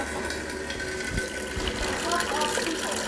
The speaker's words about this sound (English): I can do the water, just give me a sec. I'm in charge of filling up some pitchers with water, because the filter on our fridge is electrical, so we can't use it during Shabbos.